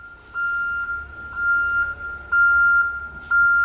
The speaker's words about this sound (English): On this day, a refrigerated truck loaded with meat is backing up to the kitchen's loading dock.